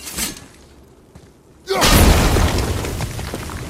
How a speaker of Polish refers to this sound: Bo to jak w to walnę, a to wiem, dobra, jak w to walnę, to to wybuchnie.